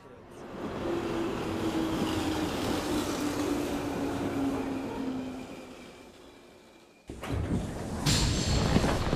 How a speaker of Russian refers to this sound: Безопасность пути подтверждена. Состав немедленно начинает движение.